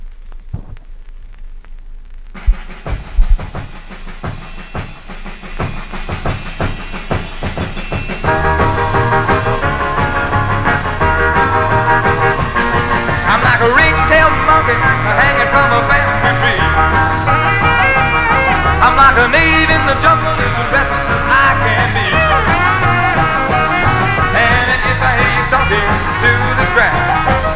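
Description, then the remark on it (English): An original vinyl record of a well-known, several-times-reissued rockabilly track, obtained from Japan, plays loud, opening with a sparse, clattering drum-and-guitar intro before the full band kicks in with a driving, steady beat. “Next, we got a track that's been reissued a few times, well-known. Again, first time I've ever had an original.”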